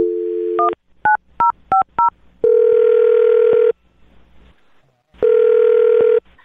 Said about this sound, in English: All right, well, I'm going to dial this phone right now. Here we go, okay?